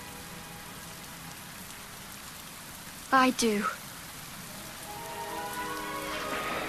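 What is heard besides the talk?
rain falling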